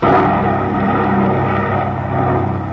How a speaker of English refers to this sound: What is this place? It's an airplane. I've never been in an airplane before.